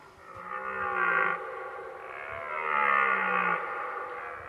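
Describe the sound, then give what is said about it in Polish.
A red deer bellows twice in deep, drawn-out roars, each groaning call lasting over a second, loud, with no other sounds around it; a recorded forest sound played from a board of forest sounds. “Albo jeleń.”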